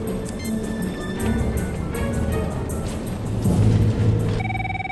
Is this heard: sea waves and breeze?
no